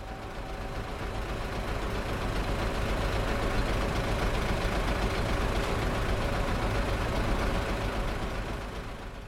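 A steady, low engine rumble of a bus carrying a girl home in the evening runs throughout, constant and fairly loud with a broad droning hum, no voices or distinct events breaking the continuous drone.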